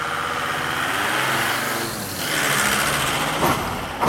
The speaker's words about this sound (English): Like, I'm going to get a little closer look, but I just got to wait till all the trucks pass first.